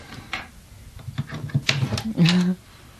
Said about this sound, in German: Also, können wir die Schublade mal aufziehen? Also, ja. Wenn ich hier mal einen Schlüssel mir hole. Also hier nicht, aber hier unten.